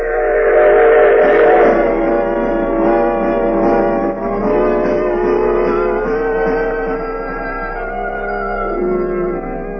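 A train rumbles steadily along the rails while its whistle blows loud and long, the layered tones holding and shifting slightly, continuous from start to finish.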